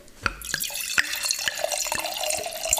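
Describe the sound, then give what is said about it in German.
White wine pours into a glass, a steady trickle broken by several bright glugs and splashes over about three seconds, with no one speaking. “Also habe mir auch viele Gedanken gemacht vorher und eine letzte Flasche gefunden, die ich jetzt mal einschenke.”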